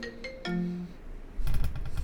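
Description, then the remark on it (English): A phone call placed through SlyDial rings briefly: two short electronic tones, the second lower and longer, followed by a burst of scratchy, clicking noise as the ring cuts off and the call goes to voicemail. No one speaks. “The phone will ring real quick.”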